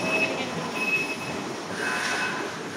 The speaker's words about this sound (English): We call them AGVs. AGVs. Automatic Guided Vehicles. Basically, it's like a forklift loaded up with items, but it's totally unmanned, and it follows a map of the warehouse floor programmed into it. It just whooshes by us. No problem.